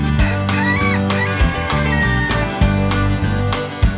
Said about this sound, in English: Farmer Joe has 16 roosters. They run around outside.